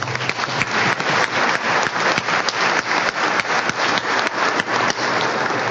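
A crowd applauds steadily, many hands clapping in a dense, sustained patter with fairly even loudness throughout, no voices standing out.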